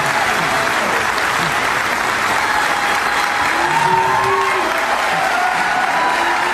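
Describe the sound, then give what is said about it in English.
A large crowd at a tour event with a book signing in Sacramento applauds and cheers steadily throughout, a dense wash of clapping with scattered shouts and voices rising above it, loud and continuous with no pause. “Here's video of this crowd as well here in Sacramento.”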